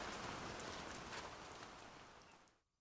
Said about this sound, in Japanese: あの雨乞いが聞いたのじゃろうか。聞いたのじゃろう。あれから雨が降り出した。降り出したのはいいが、あれから雨が止まんようになったの。